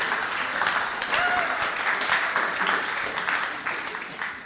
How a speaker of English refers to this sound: So shall we give him a round of applause?